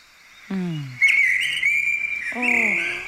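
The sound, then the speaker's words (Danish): A blackbird in Frederiksberg sings loudly, with a sustained, bright whistling phrase running almost unbroken. Lower, falling voice-like calls briefly come in at the start and again near the end. “Det er den mest aggressive solsort overhovedet på hele Frederiksberg.”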